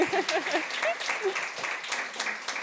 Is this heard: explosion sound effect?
no